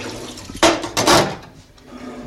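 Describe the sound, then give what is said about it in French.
Water gushes from a tap in two short, loud bursts, splashing into a sink while dishes are being washed, then trails off into a quieter trickle and faint kitchen clatter. “Tu tiens à quoi, la vaisselle ?”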